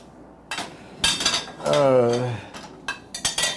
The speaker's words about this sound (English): I would end the show, but I have to finish putting these dishes away at least so I can get something done.